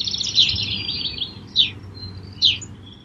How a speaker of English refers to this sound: If you are able to step outside and hear many types of birds, you might also have a greater feeling of well-being.